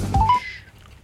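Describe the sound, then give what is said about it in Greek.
A quick run of three short electronic keypad tones, each a step higher, as someone dials a phone call, followed by a fading higher tone. Clear, with no talking. “Λοιπόν, θα πάρει τηλέφωνο.”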